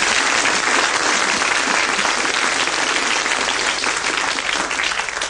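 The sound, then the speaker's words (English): The studio audience of the Brain of Britain quiz claps steadily for a contestant for several seconds, a dense, even wash of applause that holds its level throughout before starting to thin at the very end. “he gets a Brain of Britain quiz book and a round of applause.”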